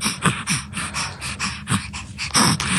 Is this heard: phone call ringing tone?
no